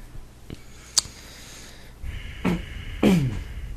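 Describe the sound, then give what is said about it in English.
A deep, noisy breath blown straight into a microphone: a couple of sharp clicks first, then loud breathy rushes with snort-like bursts near the end, no talking. “Breathing deep into the mic”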